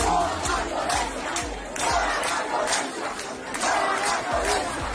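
A large crowd of protesters in El Cobre, Santiago de Cuba, Cuba, shouts and chants "no más violencia" together in a dense, continuous roar, with sharp voiced bursts and rhythmic low thumps recurring throughout.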